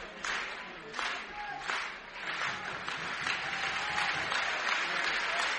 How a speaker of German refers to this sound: Riesen Applaus für unsere Nummer 75, Richard Wohl.